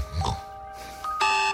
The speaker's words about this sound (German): Bis der Wecker rappelt. Ja, ich habe Radio Ton im Wecker drin und werde damit geweckt und es ist ein super Start in den Tag.